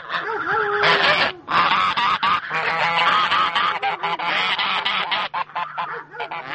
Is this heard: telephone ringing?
no